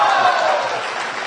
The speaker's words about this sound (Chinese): 谢谢朋友们的掌声鼓励。 哎， 如果说您这个掌声再热烈点会更好。